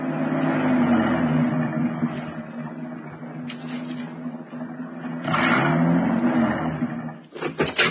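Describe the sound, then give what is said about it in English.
A car engine drones steadily as the car climbs up into the Hollywood Hills at dusk, its pitch rising and straining as it works harder, then surging again before a few sharp clicks near the end. “He just kept driving, avoiding traffic, making certain we didn't pass any towns. It was getting dark now, and the car was climbing.”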